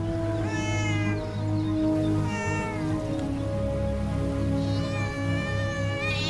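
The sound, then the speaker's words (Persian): A cat meows three times, long wavering cries, the last one drawn out and rising, over a steady low background hum with no talking. “ولی او قفس را گذاشته تا گربه ها به هوای قفس بیایند و آنها را بکشد.”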